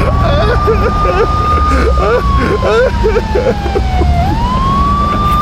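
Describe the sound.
A loud siren wails steadily, dipping in pitch then rising again, over a heavy engine rumble of a fire truck rounding a corner and passing; muffled voices can be heard beneath it.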